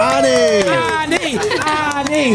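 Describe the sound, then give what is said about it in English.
A crowd cheers and shouts, several voices overlapping with rising and falling calls, loud and steady throughout the short burst. “I love that it's been fairly quiet, and as soon as we start speaking to you, the crowd start cheering.”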